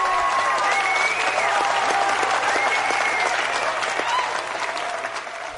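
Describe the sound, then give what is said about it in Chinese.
A crowd claps steadily in a dense, sustained wave of applause that stays loud throughout and tapers only slightly toward the end, with faint voices mixed in. “来点掌声。”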